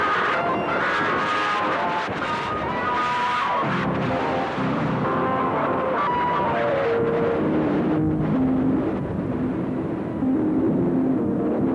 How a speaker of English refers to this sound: Yeah, I just kind of took the Patch of Acid episode patch, my utility boat, and decided to do kind of like a noise, drone-y, kind of send-off patch for it before I disassemble it and do something else.